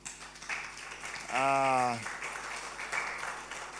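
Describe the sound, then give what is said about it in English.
An audience claps for the worship team, a dense, steady patter of applause lasting several seconds, with a single voice briefly calling out a sustained, rising cheer over the clapping midway through. “Yes, by the way, once again, give a big hand clap to the worship team.”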